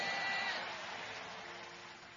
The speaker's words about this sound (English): Give the Lord a big clap of hand.